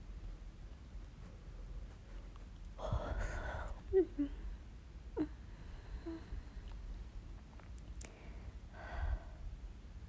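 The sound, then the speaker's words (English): A tired person gives a long, breathy yawn against a low background hiss, followed by soft mouth sounds and a quieter exhale near the end. “Don't mind my yawning. I'm tired.”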